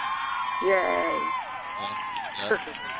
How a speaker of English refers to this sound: Supposed to be a quick cheer with our phony audience there.